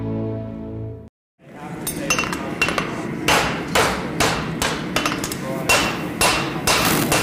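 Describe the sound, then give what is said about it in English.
Ringing metallic hammer strikes on a horseshoe being made, a front left shoe, about a dozen sharp bright clangs in a steady, slightly uneven rhythm over a low rumbling background, after a brief low tonal intro and a short silence. “I'm making a front shoe, and this would be a front left.”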